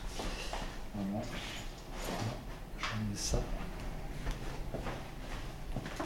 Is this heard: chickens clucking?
no